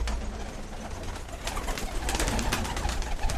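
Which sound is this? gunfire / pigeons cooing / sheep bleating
pigeons cooing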